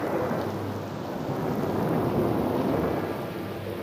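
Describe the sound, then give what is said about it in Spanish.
A deep, rolling rumble of thunder fills the whole stretch, steady and fairly loud, with a hiss of heavy rain beneath it and no sharp single crack; no one speaks. “tres hermanos nacidos la misma noche, cuya luz primera fue la de un relámpago.”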